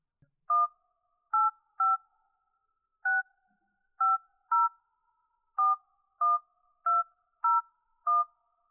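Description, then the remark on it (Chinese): A phone number is dialed: eleven short touch-tone beeps, each a crisp dual-pitched blip, tapped out at an uneven pace with brief pauses between, clear and close with no talking. “那我们现在把这个电话拨出去。”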